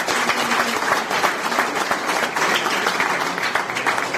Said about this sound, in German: Ja, herzlichen Dank. Euer Applaus.